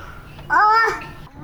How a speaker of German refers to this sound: Mitten rein in die dramatische Pause meldet sich mein Kleiner, war ja klar. Ist aber egal, keiner guckt komisch.